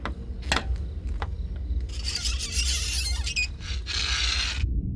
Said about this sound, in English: He draws his knife blade across the window.